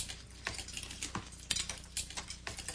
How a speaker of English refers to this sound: I really love having a family dinner where all you can hear is forks hitting the plates.